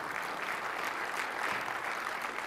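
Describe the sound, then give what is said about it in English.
Steady applause from an audience fills the whole moment, a dense, even patter of many hands clapping at once, moderately loud with no voices standing out. “See now, now you can applaud.”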